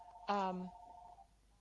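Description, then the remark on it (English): A person's phone rings unexpectedly during a conversation with one short electronic chime, a bright steady tone that starts abruptly, holds for under a second, then thins out and fades. No one talks over it. “okay, that wasn't supposed to happen, my phone ringing.”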